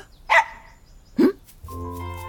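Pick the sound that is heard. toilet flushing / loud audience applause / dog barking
dog barking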